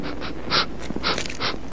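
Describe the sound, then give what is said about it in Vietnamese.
A puppy pants in short, breathy bursts, about six quick airy puffs in a loose rhythm, soft and hissy with no voice alongside. “Thì ra là một con chó con.”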